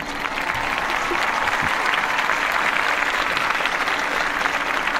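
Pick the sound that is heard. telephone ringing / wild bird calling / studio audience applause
studio audience applause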